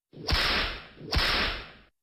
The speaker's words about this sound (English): The sound of that whip can only mean one thing, that it is time now, once again, to go into the dungeons and hear the screams of painful investors out there.